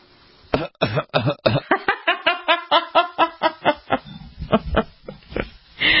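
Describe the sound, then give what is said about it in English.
A loud coughing fit: over a dozen harsh, rasping coughs in rapid succession, coming in a steady rhythm and tapering off toward the end, with no talking. “Don't you have a cough button?”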